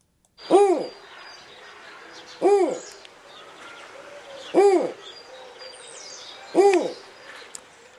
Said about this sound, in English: Well, that is the hoot of a snowy owl.